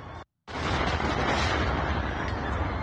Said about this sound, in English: This is the bridge being blown up with the terrorized public that was out there at the river enjoying themselves at the park.